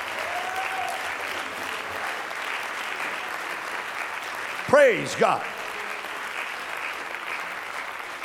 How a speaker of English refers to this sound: Somebody's going down in the water in Jesus' name. Let's clap our hands and bless him.